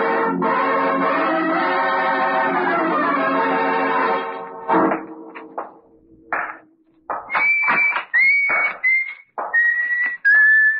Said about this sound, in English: You know me, whistle while I work.